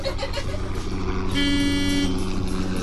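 A car horn gives one loud, steady honk lasting under a second, set against a continuous, noisy rumble of traffic.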